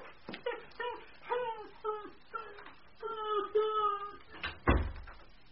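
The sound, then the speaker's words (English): A dog whimpers and whines in a string of short, pleading cries, fairly loud, ending with a soft thump. “Oh, come along, you naughty dog.”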